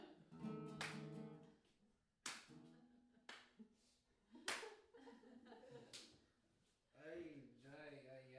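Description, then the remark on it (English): About five sharp, slow hand claps, a slow clap for a Yamaha acoustic guitar, spaced a second or more apart and loud, with a person's voice murmuring and laughing between them. “How about a slow clap for Yamaha?”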